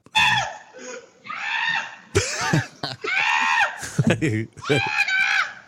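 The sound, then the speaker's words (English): A neighbor screams over and over at a runaway goat on Detroit's west side, a series of loud, high-pitched shrieks broken by short gasping, sputtering breaths between them. “A now viral video shows the moment the goat met a neighbor. Listen to this. The neighbor scream.”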